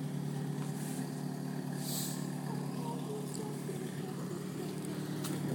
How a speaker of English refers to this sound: God, I'm waiting for this guy to pull out of the driveway.